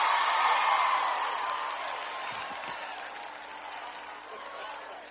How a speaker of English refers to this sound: Come on, clap your hands loud and shout amen in this place.